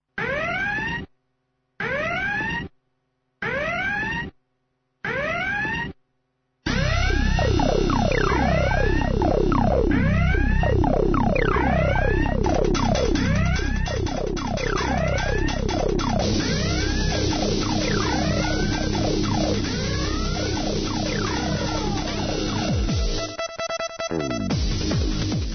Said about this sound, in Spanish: hemos escuchado las sirenas, las alertas de seguridad